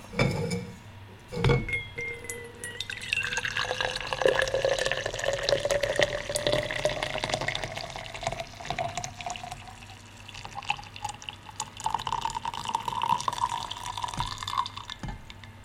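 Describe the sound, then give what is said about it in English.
Coffee made in a plunger coffee maker is poured into a cup, after a brief clink at the start; the steady splashing stream rises in pitch as the cup fills, with no talking. “Now comes the best part, the pouring of the bean juice.”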